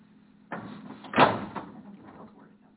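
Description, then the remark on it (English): A door is opened, starting with a rumbling movement that builds to a single louder clunk before fading out over a steady low background hum. No one speaks. “I know, speaking of, can you see how it would feel if that door was open?”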